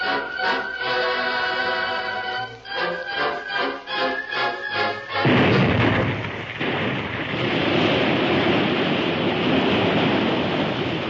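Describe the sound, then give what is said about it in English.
Rhythmic, tonal music pulses for several seconds, then a sudden loud, deep blast, fired at dawn to divert a river, erupts into a sustained roar of gushing, geysering river water rushing into a new course down a hill. The roar stays heavy until the end. “At dawn, the blasts were fired. The river gushed and geysered, then settled into a new course, rushing down a different side of the hill.”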